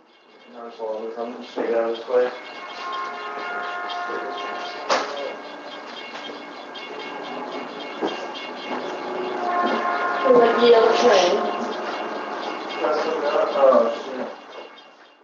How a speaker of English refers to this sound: the bells, the whistles, and the train horns. And as the train starts to pass,